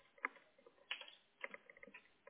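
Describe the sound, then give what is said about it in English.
Quiet, irregular clicking of someone typing notes on a computer keyboard, with a few sharper keystrokes standing out among softer taps, without any talking. “I'm sorry if you hear me typing a lot.”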